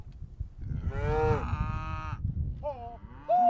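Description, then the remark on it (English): Cows of mixed colours (black, red white-faced, black white-faced) moo outdoors on a farm, one long, loud bellow followed by shorter, fainter calls from others, over a low rumbling background. “Cows come running when Cooper calls.”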